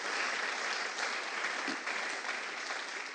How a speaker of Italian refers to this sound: Alleluia, facciamo un applauso al Signore. Grazie Gesù.